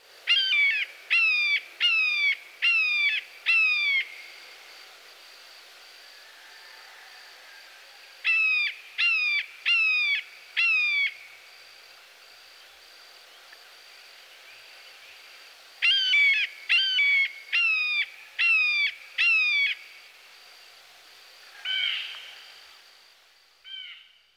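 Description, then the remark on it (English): A blue jay mimics a red-shouldered hawk, giving loud, harsh, descending screams in rapid series of four or five, repeated three times with short pauses, then a couple of trailing calls. “It is interesting to note that the blue jay can mimic the buteos we have just heard. One of his calls is a close match for the red-shouldered hawk.”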